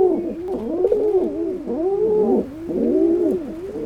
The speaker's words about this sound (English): It's easy to imagine, when hearing soft cooing sounds like these, why baby pigeons would rather stay in the nest. But the reason is they wait to fledge until they are nearly independent, and the task of getting on with life is a bit easier.